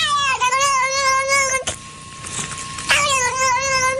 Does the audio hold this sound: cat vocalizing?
yes